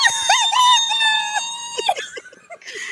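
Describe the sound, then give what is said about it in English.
A loud, high-pitched excited squeal, an ecstatic fangirl squee that wavers and holds for over a second before breaking into shorter squeaky yelps. No talking. “So for Indaloran, I have to give a big squeeze.”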